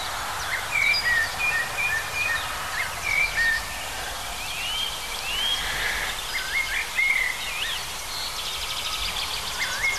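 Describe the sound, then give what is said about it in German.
A European robin sings a string of thin, high, warbling phrases separated by short pauses, over a steady low rumble of road traffic. “Allerdings, wenn wir mal vor eins um Rotkehlchen genau stehen, dann wird es ziemlich schnell klar.”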